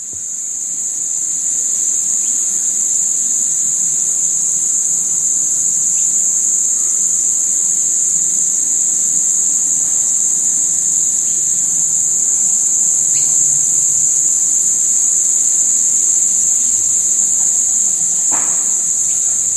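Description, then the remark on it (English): A dense, continuous chorus of cicadas in summer in Avalon, on the northern beaches of Sydney, Australia, buzzes loudly and steadily for the whole stretch, a shrill unbroken drone with no voices, only a faint brief click or two beneath it. “These are the cicadas in Avalon on the northern beaches of Sydney.”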